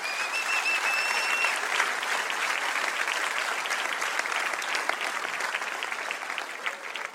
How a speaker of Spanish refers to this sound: Denle un aplauso bien fuerte.